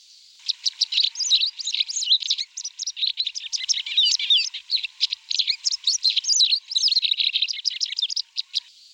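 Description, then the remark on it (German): A white wagtail's twittering song: a continuous, rapid stream of high, thin chirps and trills, clear and fairly unobtrusive, running without pause for the whole stretch with no voices. “Es ist eine Art Zwitschergesang und eher unauffällig.”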